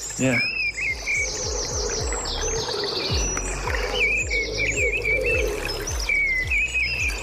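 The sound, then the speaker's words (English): A mistle thrush sings loud, fluting phrases in repeated bursts over the steady trickle and babble of a small stream running continuously underneath. “There is the sound of a Mistle Thrush song here with a trickling stream behind it, which I think everybody should have as some kind of relaxation on their phone.”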